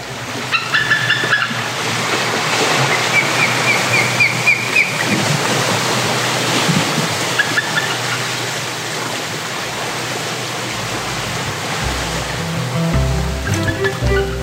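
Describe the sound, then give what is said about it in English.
Two ospreys trade bursts of short, high whistled chirps, calling back and forth over a steady, soft wash of gentle ocean waves breaking, recorded in Maine. “this recording of two osprey hollering back and forth with some gentle ocean waves recorded on a recent trip to Maine.”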